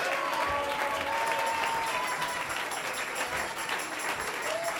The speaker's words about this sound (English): Clap your hands unto him and bless his name.